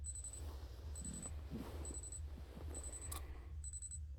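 alarm ringing

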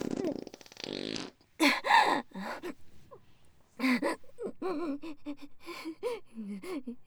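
fart noises

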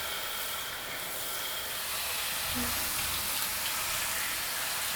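shower water spraying

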